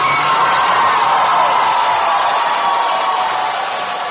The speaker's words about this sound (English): and you, the audience, will tell us which one is the winner by your applause. Please, no weaseling. Just, you can scream and applaud all you want, and here is the first,